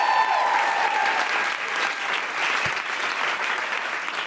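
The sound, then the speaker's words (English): An audience applauds steadily for several seconds to welcome a speaker at a Shakespeare-themed event, a dense wash of clapping with a few brief whistles at the start, holding a fairly even loudness throughout. “You can give me a round of applause if please, you like.”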